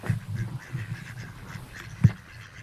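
Mallard ducks coming over on the water quack repeatedly in a low, raspy chatter, several calls overlapping at moderate volume, with one louder, sharper quack standing out near the end.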